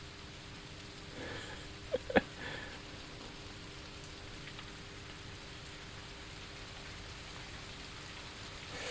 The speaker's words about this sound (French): Bon, pour l'instant, il pleut. Il pleut berger. Ça va faire du bien d'ailleurs, un peu de fraîcheur là.